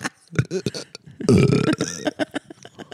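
A long, loud, rumbling burp erupts in the middle, low and gravelly, with a person talking briefly before and after it.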